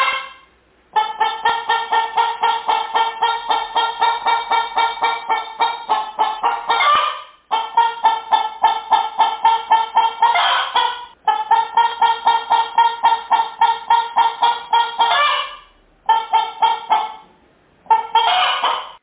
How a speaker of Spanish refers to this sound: Desde su charco, una parlera rana oyó cacarear a una gallina.